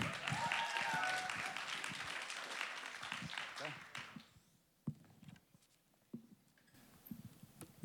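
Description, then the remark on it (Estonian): A crowd applauds to welcome the next speaker, with dense, steady clapping that fades out after about four seconds, leaving a few scattered claps and faint movement sounds. “Tõeline mees, teeme aplausi.”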